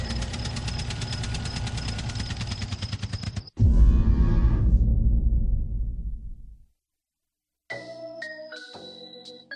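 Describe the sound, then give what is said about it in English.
A harvester engine runs loud with a steady, throbbing drone, swells into a heavier rumble, then cuts to silence before brief tonal mechanical sounds return. No one speaks. “Oh, bloody harvester.”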